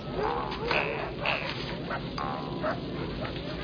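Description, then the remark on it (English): Seven dogs yip and whimper in short, overlapping bursts as they are fed pieces of fish, high-pitched and excited, over a steady hiss of background noise, with no one speaking. “Seven pieces of fish for seven dogs and meat in the dinner.”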